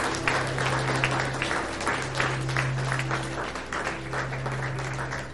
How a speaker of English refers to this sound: Can you give him a clap offering this morning? Come on, give him praise in this house.